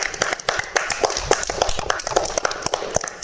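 A group applauds together, a steady, dense patter of many hands clapping at once, fairly loud and sustained for about three seconds without letting up.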